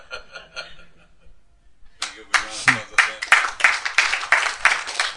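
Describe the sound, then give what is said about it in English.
A voice sounds briefly, then after a pause a single person claps hands in a steady, fairly quick rhythm, about ten sharp, loud claps in a row. “Even clapping hands like that, it's Western culture.”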